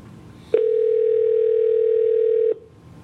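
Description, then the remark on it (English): A telephone line tone sounds once as a call is placed to Ubiquitous, a steady, flat, mid-pitched hum lasting about two seconds that starts and stops abruptly, with a faint background hiss and no voices. “Let's get Ubiquitous on the phone.”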